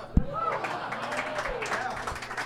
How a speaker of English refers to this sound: The applause is only for saying the name of the film, definitely not for the film.